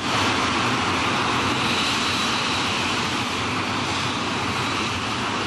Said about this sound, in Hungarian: A harckocsi alvázra szerelt két MiG-21-es repülőgép turbina 3,5 tonna tolóerőt fejt ki. A légcsatornába jutó égés terméke közben elvonja az oxigént a kútból feltörő lángoktól.